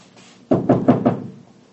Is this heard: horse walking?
no